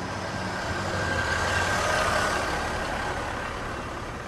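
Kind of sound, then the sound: vehicle, bus engine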